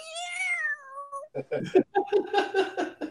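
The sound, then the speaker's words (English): A person mimics an upset cat being sprayed with water: a drawn-out, falling yowl followed by a burst of choppy, sputtering hisses and yelps, fairly loud. “Now I'm just, it's gonna sound like when you spits a cat with water.”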